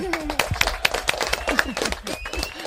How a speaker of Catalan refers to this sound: Sí, un aplaudiment.